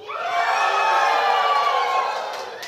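A crowd of children cheers together on a count of three in one sustained, high-pitched shout that swells quickly, holds loudly for a couple of seconds, then fades.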